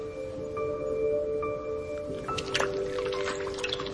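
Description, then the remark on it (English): A 5-week-old puppy laps at water, a run of wet, splashy licks and drips that grows busier toward the end, over a steady low humming tone. “But even the simple act of drinking is more complicated than it looks.”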